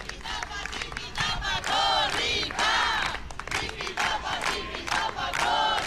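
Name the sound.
crowd applauding and cheering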